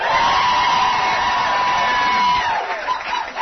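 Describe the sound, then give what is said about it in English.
A large crowd at the 2017 WCHL Healthiest You Challenge at the UNC Wellness Center at Meadowmont cheers and whoops loudly for a few seconds, a dense roar of voices with high yells on top, tapering slightly near the end. “Just wanted to prove to you folks in Radio Land that we had a big crowd of folks here.”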